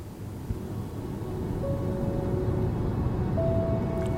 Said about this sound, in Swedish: Vi åker bil längs vägen mellan Jokkmokk och Kobdalis.